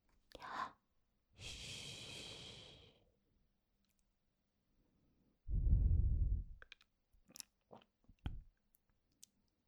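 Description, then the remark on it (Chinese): A father snores in his sleep: a long breathy inhale followed by a deep, rumbling snore, then a few small clicks and mouth sounds. “诶，爸爸还真打呼噜了。”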